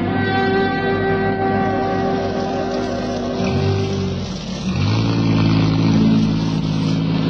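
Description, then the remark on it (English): A utility truck's engine idles and revs, its steady harmonic hum dipping as it shifts and slows around the middle, then rising again as it pulls in alongside a car in the rain. “I'll pull the utility in alongside of your car, so you won't have far to walk in this rain.”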